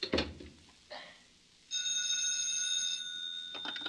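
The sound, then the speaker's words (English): A telephone rings with one sustained, bright electronic trill lasting a couple of seconds, preceded by a few short clattering knocks. No voices. “you shouldn't phone me. I told you that.”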